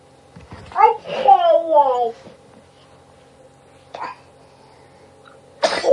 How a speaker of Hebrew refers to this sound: אוי, לבריאות.